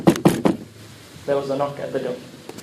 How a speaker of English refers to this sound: Now, whilst they were having this conversation, there was a knock at the door.